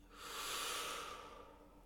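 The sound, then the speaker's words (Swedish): A single deep inhalation drawn in through the nose as a final breath in a guided relaxation exercise, a soft airy rush that swells and then slowly tapers over about two seconds, quiet, with no talking. “Andas in.”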